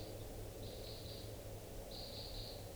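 Faint flight calls from crossbills flying around and calling wildly come in two short bursts of high chips over a steady background hiss and low hum, with no voices.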